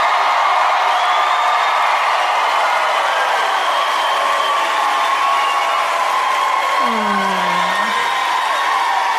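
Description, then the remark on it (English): A large audience in Nashville, Tennessee cheers steadily, a dense wash of crowd noise with whoops and shouts rising out of it, one prominent whoop near the end. No one speaks over it. “Listen, that's very kind of you to cheer for that.”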